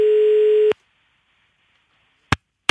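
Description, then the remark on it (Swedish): A telephone ringback tone on an outgoing call to a job applicant in Gothenburg, Sweden: one steady, clear electronic beep lasting under a second, then a pause of silence, followed by sharp clicks and clatter as the line is picked up. “Och jag ringer upp den här personen för att hjälpa honom att passa in.”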